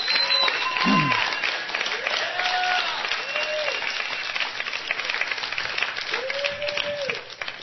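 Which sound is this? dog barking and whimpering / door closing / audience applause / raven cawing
audience applause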